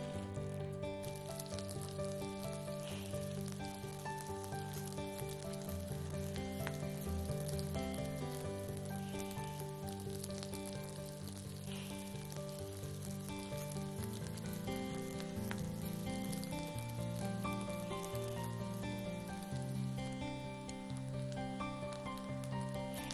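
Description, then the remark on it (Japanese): Oil sizzles steadily in a frying pan over medium to high heat as gluten meat and kurumabu (wheat gluten rings) fry, a dense, even crackling hiss that runs unbroken throughout, with sustained tonal sounds layered underneath and no one speaking. “で油がシュワシュワと音を立てて温まってきたら、ここにグルテンミートと車麩を並べて焼いていきます。”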